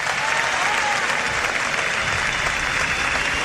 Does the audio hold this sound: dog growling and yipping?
no